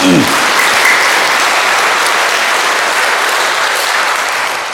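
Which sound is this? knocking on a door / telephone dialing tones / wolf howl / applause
applause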